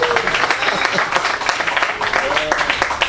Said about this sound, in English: I used to think, you could clap, it's good.